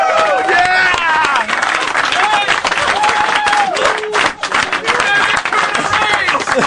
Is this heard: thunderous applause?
yes